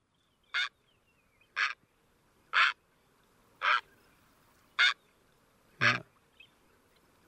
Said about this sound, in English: Kind of a throaty, guttural one, where the great blue heron is just a real deep squawk. I think we've got that one.